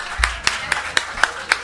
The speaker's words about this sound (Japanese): もう一回拍手したいと思います。